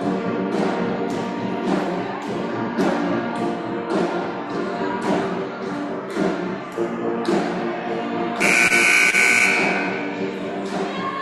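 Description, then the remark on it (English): A school band plays loud, steady brass chords over a regular drumbeat during a girls' basketball game between the Lady Owls and the Lady Rams, and a harsh game buzzer blares for about a second near the end while the music continues. No one speaks. “Always good to listen to the band.”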